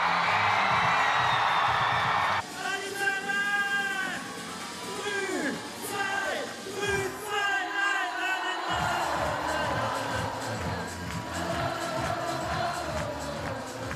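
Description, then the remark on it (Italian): A large crowd of Swiss football fans in Zurich cheers loudly, welcoming the Swiss national team back from Kansas City, with overlapping high whoops and shouts above a steady roar and a rhythmic low thumping beat running underneath. “L'accoglienza dei tantissimi tifosi rossocrociati che si sono recati in Turbine in Plaza a Zurigo a ricevere la nazionale svizzera di ritorno da Kansas City.”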